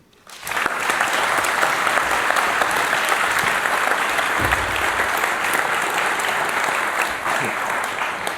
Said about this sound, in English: These two are from the KIT team for CTF, and they'll talk a bit about it because they also organize it here at the GPN. Please, an applause.